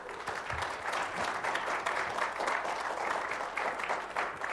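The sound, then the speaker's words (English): A church audience claps steadily for several seconds as new members are announced, a dense, continuous patter of many hands with no voices standing out, holding an even loudness throughout. “Please hold your applause until...”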